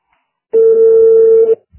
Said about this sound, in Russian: Раз гудок. Два гудок. Три гудок.